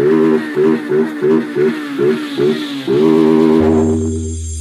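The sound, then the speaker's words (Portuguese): A voice loudly imitates an invisible motorcycle revving at full throttle: about six short, rhythmic throttle bursts, then one long sustained rev, with a deep low hum coming in at the end. “Em frente o paredão na máxima da minha moto invisível”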